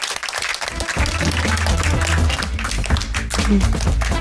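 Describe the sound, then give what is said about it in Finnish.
A live audience at Oodi in Helsinki bursts into sustained applause for one another at the end of a broadcast, a dense wash of many hands clapping steadily for several seconds, with a low murmur of voices underneath. “Annetaan toisillemme aplodit.”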